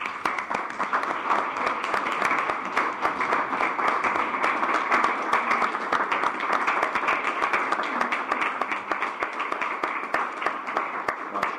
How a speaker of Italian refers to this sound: Io prima di dare la parola al sindaco chiedevo un applauso alla città di Erba. Grazie.